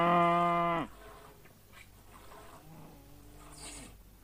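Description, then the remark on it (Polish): A cow being milked lets out a loud, drawn-out moo, followed a few seconds later by a softer, shorter low moo against quiet background noise. “Już panu służę, tylko wydoję tę krowę.”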